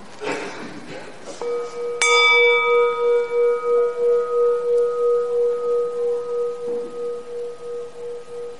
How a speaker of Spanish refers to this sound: To a close, let's listen to the sound of the bell. Vamos a escuchar a terminar esto. Vamos a escuchar al sonido de la campana del principio hasta ya no podemos oírlo más.